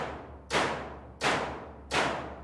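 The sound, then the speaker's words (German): Three sharp knocks from electromagnetic hammers, driven by networked microcontrollers in a sound installation, strike a wooden hut at a steady, evenly spaced rhythm, each a bright percussive hit with a short decaying tail, over a low constant hum. “Die Idee war nun, möglichst ohne viel Eingriff in das bestehende Gebäude das Instrument zu bauen und mit vernetzter Elektronik, mit Mikrocontroller und Dubmagneten Hammerwerke zu bauen, die diese Hütte beklopfen.”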